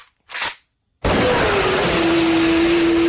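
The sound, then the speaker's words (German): A BMW S1000 RR sport motorcycle engine roars to life after a short burst and a pause, revving loudly with a steady tone that climbs in pitch, and no talking. “Von 0 auf 100 in 2,9 Sekunden. Die BMW S1000 RR.”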